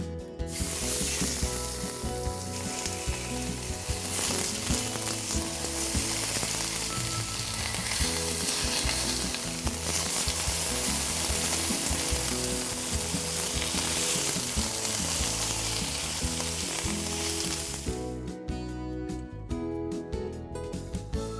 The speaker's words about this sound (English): The first thing we're gonna do before we put the pheasant breast into the crock pot is brown them.